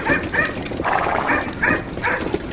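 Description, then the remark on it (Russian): A dog barks at horses pulling a cart in a quick, steady series of about five sharp, loud yaps over a constant low background rumble. “Она умела править вожжами и лаяла на лошадей, когда те начинали дремать или сбивались с дороги.”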